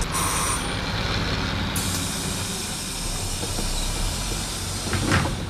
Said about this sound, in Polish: Znajdujemy się w autobusie marki Autosan H935. Jest to samochód, który kupiłem za własne fundusze i remontuję za własne fundusze w celach upamiętnienia polskiej motoryzacji, różnych rocznic komunikacyjnych.